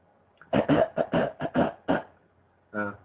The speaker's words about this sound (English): Let me clear my throat.